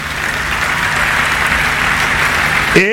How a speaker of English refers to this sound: Let's rise up as we welcome him to the podium. Praise the Lord. You clap like you're in a local government.